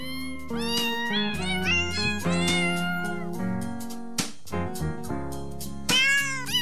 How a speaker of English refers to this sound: Ah, those chestnuts roasting by the fire. Ooh, love those …. I'm sorry I get so distracted on the first show. We break out the …. I just love it.